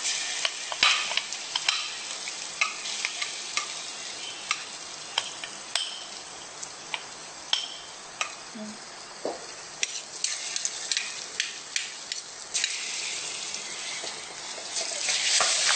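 Curry powder stir-fried in a pan: a steady, bright sizzle runs throughout, broken by frequent sharp scrapes and taps of a utensil against the pan, with no voices.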